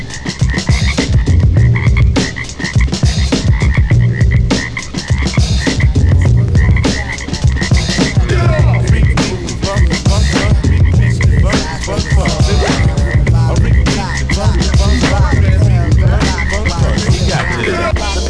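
A loud, dense chorus of frogs croaking in rapid, overlapping pulses, continuous throughout with a deep low rumble underneath and brief dips in intensity.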